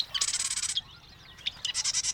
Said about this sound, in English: The marsh wren.